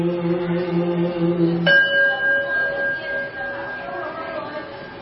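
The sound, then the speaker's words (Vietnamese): A meditation bell is struck once and rings on with a long, steady, gently fading tone. A low sustained chanted note comes just before the strike. “Lắng lòng nghe, lắng lòng nghe tiếng chuông thiền diệu đưa về nhất tâm.”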